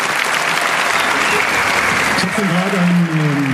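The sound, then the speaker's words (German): A crowd at a Chaos Computer Club congress claps steadily in a loud, dense wash of applause for everyone who made the event possible, and partway through a man's voice begins speaking over it. “Genau, also der allerfetteste Applaus für alle, die diese Veranstaltung möglich machen.”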